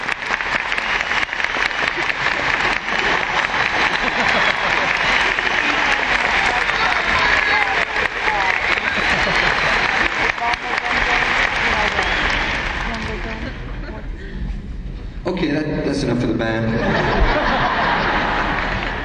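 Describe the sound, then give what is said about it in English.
A crowd claps steadily in dense, loud applause, with scattered laughter and chatter mixed in, fading slightly before a burst of voices near the end. “What did they applaud for?”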